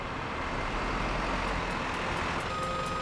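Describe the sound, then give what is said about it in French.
A truck's engine rumbles steadily as it maneuvers into position at a company's loading area, with a reversing beep chiming toward the end. No voices are heard. “Le camion se gara à l'aire de chargement et les hommes y mirent leur précieuse cargaison.”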